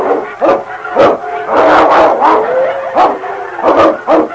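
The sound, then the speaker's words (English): A loud animal fight between the dog King and a wolf pack in deep snow: harsh snarls, growls and sharp yelps erupt in rapid, overlapping bursts, with a few drawn-out whining cries between them. “It was a struggle to the death with the odds against the dog.”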